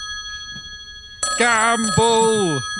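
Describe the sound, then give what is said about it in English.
A voice sings out a short, ringtone-style call in sliding, musical pitches, imitating a phone ringtone and recorded to be used as one, over a faint steady electronic hum. It is fairly loud and lasts about a second and a half. “We're going to record a ringtone for you now.”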